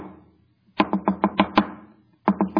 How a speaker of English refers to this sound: where we learn of the neighbor who has a friend visiting and keeps knocking on the door of the other neighbor until he finally opens.